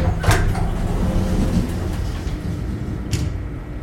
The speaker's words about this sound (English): After what seemed like a full minute, the familiar whirring noise started up again. The metal doors creaked, then began to slide apart.